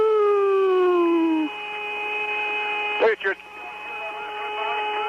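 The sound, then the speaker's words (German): An eerie whistling tone from the radio of the 1969 Apollo 10 mission, taped by its three astronauts on the far side of the Moon, with layered pitches that glide downward, then settle into a steady hum, broken briefly by two short crackling bursts partway through. “Hast du diesen pfeifenden Ton auch gehört? Klingt wie Space-Musik.”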